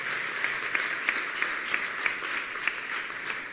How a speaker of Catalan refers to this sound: Fort aplaudiment per a ells, que s'ho mereixen.